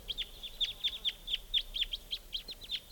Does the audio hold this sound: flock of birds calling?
yes